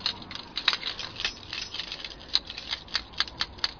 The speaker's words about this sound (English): That's the sound of me twirling some keys around on my finger. Because I got skills. I'm outside Go Outdoors right now.